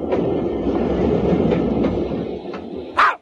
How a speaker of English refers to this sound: That wasn't the Bristol Express, was it? It was. What a bother! I must have caught that train.